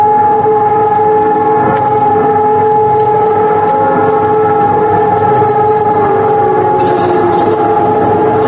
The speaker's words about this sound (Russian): Всех, однако, заставляет на минуту остановиться и объединяет вой сирен, который раздался во многих польских городах в 8 часов 41 минуту. На улицах замерло движение транспорта и пешеходов.